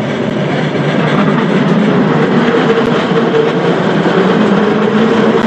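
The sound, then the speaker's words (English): A steady, loud rumble of a San Francisco cable car grinding uphill on the hilly section of California Street near Grace Cathedral, with continuous rattling and low mechanical hum throughout and no talking. “we've come up a fair way on the hilly section of the San Francisco cable car.”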